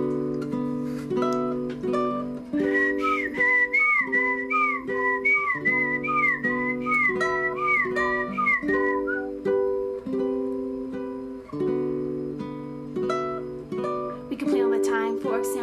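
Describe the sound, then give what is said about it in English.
A bright, wavering whistled melody rises over steady instrumental chords, carrying a tune for several seconds before fading as the backing music plays on. “If you guys can help me whistle.”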